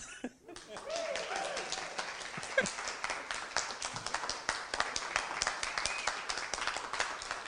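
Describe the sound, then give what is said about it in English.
A crowd of parents, siblings and friends breaks into sustained applause at the end of a song, many hands clapping in a dense, steady patter for several seconds, with a few scattered voices and cheers mixed in. “It's okay to clap.”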